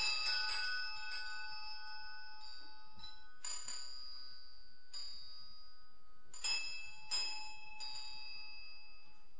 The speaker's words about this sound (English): I just thought you might like a little bell ringing instruction.